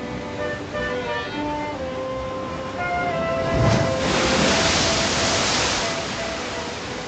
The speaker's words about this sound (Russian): Ну вот перед ними море. Бушует, шумит на просторе. А в море высокое ходит волна.